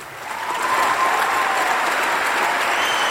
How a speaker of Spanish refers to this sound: ¡Aplaudan a Guado! ¡Guado!